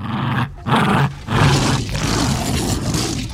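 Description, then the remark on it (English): A loud, dense growling roar in several surging bursts, with brief gaps, rumbling low and rasping across the whole range like a huge creature snarling; a T-Rex roar made from the growls of a Jack Russell Terrier playing with a rope toy. “watched his Jack Russell Terrier playing with a rope toy and saw the similarity of the T-Rex grabbing and shaking other dinosaurs and lawyers to death.”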